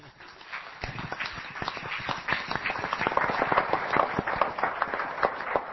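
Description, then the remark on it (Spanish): A burst of applause: many hands clapping in a dense, irregular patter that starts abruptly, builds slightly and keeps going steadily at a moderate level, with no voices. “Un aplauso en general, feliz año para todos, muchas gracias.”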